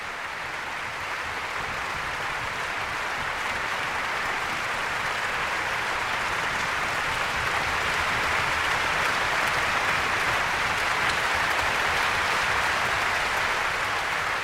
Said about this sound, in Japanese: NHK ホールは大きな大きな拍手に包まれています。今日は NHK ホール満席だと聞いております。